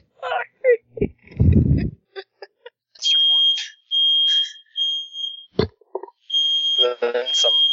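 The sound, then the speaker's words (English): A fire alarm sounds in a series of shrill, high-pitched beeps, growing longer toward the end, while people talk and make vocal noises over and between them. “And then a fire alarm went off.”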